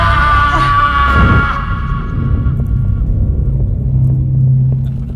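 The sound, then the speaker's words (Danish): A loud scream rings out as a hot air balloon descends into a huge, dark cave. The scream hangs in the air, its tone slowly fading as it echoes away through the vast, hollow cave over a low, steady rumble. “Og I hører ekkoet af … skrig, der rummer ud i det store tomrum.”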